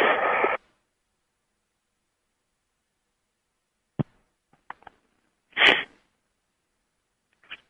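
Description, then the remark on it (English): A couple of short, breathy sniffs, one at the start and another a few seconds later, separated by near silence with a few faint clicks. “And there is one of my sniffs.”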